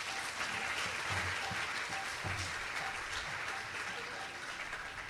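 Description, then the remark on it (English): A crowd claps steadily in a dense, sustained round of applause for the event helpers at registration and parking, holding at full strength for several seconds, heard from within a large audience with no voices rising above it. “So, you know, a round of applause for those folks as well.”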